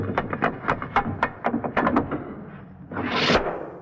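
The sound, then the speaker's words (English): A radio sound effect of a guillotine blade falling, made on the Bishop and Gargoyle show by running metal up and down a door's side: a quick run of sharp rattling metal clicks, a rising metallic whoosh, then an abrupt dull thud of a padded mallet hitting a wicker basket, fairly loud, no voices. “This jovial sound effect was accomplished by the sound man on the Bishop and Gargoyle show, running a piece of metal up and down the side of a door to produce the sound of a guillotine knife falling.”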